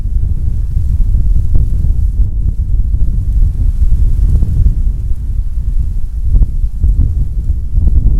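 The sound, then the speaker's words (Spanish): Strong, cold wind buffets a microphone outdoors, making a steady, loud low rumble that swells in gusts with occasional brief crackling bursts. No one speaks. “Acá está, ya está pegando el viento.”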